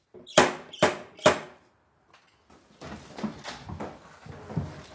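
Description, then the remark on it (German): Three sharp, evenly spaced, loud knocks from a brass ring knocker on the old wooden door of the Wieghaus, a half-timbered house built into the town wall in Neubrandenburg, Germany, followed by a pause and softer shuffling, rustling sounds. “Wenn man mit dem Messingring an die alte Holztür vom Wieghaus klopft”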